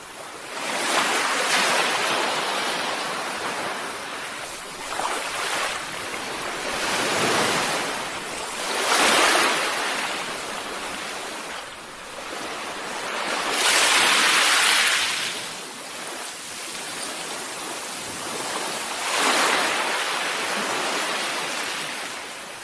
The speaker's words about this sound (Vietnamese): Tâm hồn tôi như bồi hồi rung động mỗi khi nhìn những làn sóng mạnh mẽ đập dội lên những cồn đá đầy phúng thạch lâu năm này.